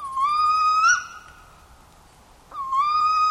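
A spotted owl gives two drawn-out, rising, whistle-like hoots, fairly loud, separated by a quiet pause of about a second and a half, with no talking.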